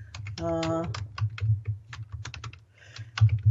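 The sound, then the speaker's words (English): Someone types a web search for nuclear leaks in the USA on a computer keyboard, a quick, irregular run of crisp key clicks over a low background hum, with a brief tonal sound near the start. “Let's just put in nuclear leaks in the USA.”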